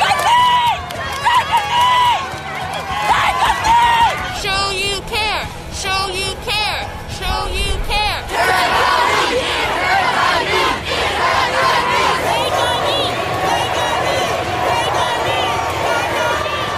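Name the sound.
protest crowd shouting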